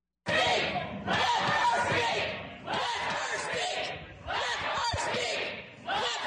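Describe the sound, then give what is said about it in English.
Protesters repeatedly bang heavily on the doors to the chamber gallery at the Montana State Capitol amid a loud, agitated crowd, with people shouting and talking over the pounding. “Some of the protesters resisted, being pushed out of the by the Montana Highway Patrol, others banging on the doors to the gallery.”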